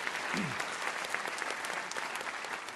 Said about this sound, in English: This audience has been terrific, and we want you to really applaud yourself. You were very lively and terrific questions, so thank you for that.